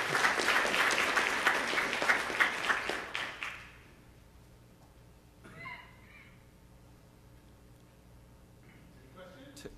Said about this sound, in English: We have time to clap.